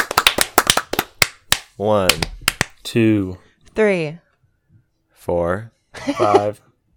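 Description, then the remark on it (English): A quick, slightly uneven run of about eight sharp hand claps, loud and crisp, followed by several short bursts of voice with nobody clapping. “Claps.”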